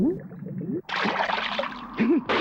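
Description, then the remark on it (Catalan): A short voiced sound gives way to a loud, broad splash as a ninja character plunges into the water beneath the ice, followed by continued sloshing and churning, with a brief vocal tone rising near the end. “El ninja es capbussa sota el gel.”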